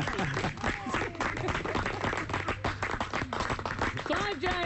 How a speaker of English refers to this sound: Applause there